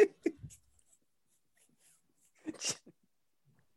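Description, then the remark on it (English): A dog whimpers in a few short, breathy bursts, falls quiet for about two seconds, then lets out a sharper huffing whimper with a snort. “A dog.”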